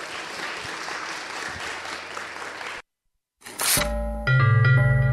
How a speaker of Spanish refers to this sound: Estamos aquí con los jóvenes y las jóvenes de la preparatoria número 5, a quienes les pido que nos den un fuerte aplauso para que se den cuenta que estamos acá.